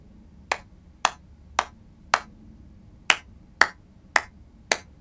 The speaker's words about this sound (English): Now, I'll clap my hands in rhythm and you'll follow, OK? OK.